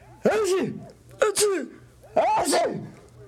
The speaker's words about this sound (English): Carrying on an intelligent conversation with Drover is hard enough under the best conditions, but when we're both sneezing, it's very near impossible.